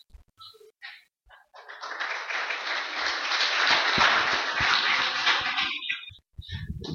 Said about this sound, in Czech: Děkuju za potlesk, ale vy nevíte, komu tleskáte.